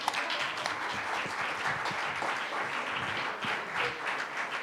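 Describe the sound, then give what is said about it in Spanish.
A festival crowd applauds steadily for the people who wear the white school smock, a dense wash of many hands clapping at once that holds at an even, fairly loud level throughout without fading. “Sí, no, vos estás en todo, como toda la gente que tiene el guardapolvo blanco, que merece otro aplauso más.”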